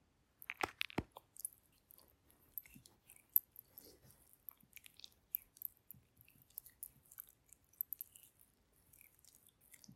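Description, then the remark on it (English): Soft ruffling and crinkly handling noises as lubricant is dripped on, with scattered small wet clicks and squishes and a few sharper snaps early on, fairly quiet and irregular throughout, with no voices. “Okay, so excuse the ruffling sounds, but I have some lube. I'm just gonna drip it on.”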